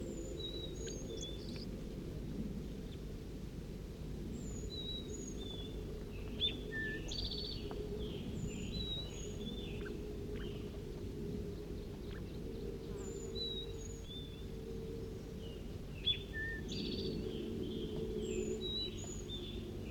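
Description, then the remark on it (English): A songbird (bird 4-3) sings while juvenile birds in a cherry tree give repeated short, high begging calls throughout, moderately loud over a constant low hum of background noise. “Bird 4-3 was singing before, and we also have juveniles giving begging calls back in the cherry tree.”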